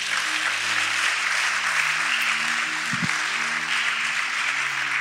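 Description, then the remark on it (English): An audience claps for Jesus in a steady, dense wash of applause that holds at an even loudness for several seconds, with faint low murmuring beneath it. “Clap for Jesus.”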